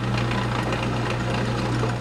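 A car lift motor hums steadily with a strong low drone and a constant mechanical whir, loud and unbroken throughout with no talking.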